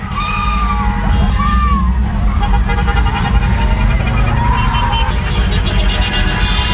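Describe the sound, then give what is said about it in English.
A busy street car parade in Samoa with steady engine rumble from passing cars carrying flag-waving supporters, and fans cheering and shouting on the sidelines throughout, with occasional car horns and whistles sounding over the loud, continuous din. “Samoans in their cars waving their flags, fans screaming and cheering on the sidelines.”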